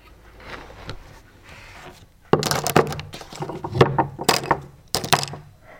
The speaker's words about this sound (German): Okay, dann darfst du wieder umblättern.